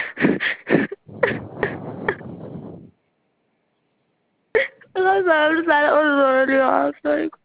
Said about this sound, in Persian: میگم منم تحت تاثیر گذاشتی، گریه نکن، خوشحال باش.